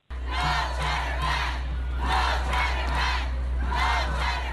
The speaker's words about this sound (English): All right, that's a group shouting earlier today saying no charter ban. The board is expected to vote on a resolution to ask the state legislature to put a cap on charter schools.